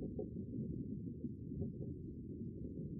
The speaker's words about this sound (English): So foraging is not their main objective in July and August and September here. But at the same time, they are producing this click bursts or terminal buzzes for finding prey. So they still do forage.